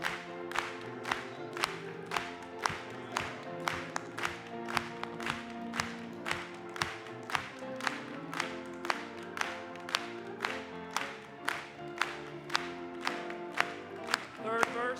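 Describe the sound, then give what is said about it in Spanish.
A crowd claps together in a steady rhythm, about two sharp claps per second, sustained over continuous singing and music that carry through the whole stretch. “Vamos a aplaudirle.”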